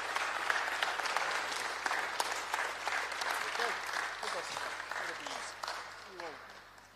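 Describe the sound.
Sustained audience applause, a dense crackle of many hands clapping at a steady, fairly loud level, with a few faint voices and cheers mixed in before it gradually tapers off.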